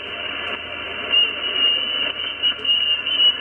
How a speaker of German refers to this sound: Störungen en masse. So klingt es dann, wenn's... Ja, wenn ein Betrieb ist. Wenn da so eine Pfeiferei ist oder irgendetwas, das ist also nicht, weil einer lustig ist, sondern der stimmt seine Antenne ab.